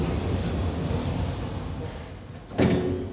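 A glass elevator's door slides shut with a steady low mechanical rumble, then meets its frame in a short, firm thump with a faint metallic ring near the end, before the elevator rises 36 metres. No one speaks.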